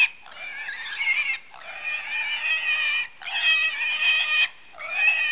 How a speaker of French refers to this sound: Oh, il exagère le cochon, là.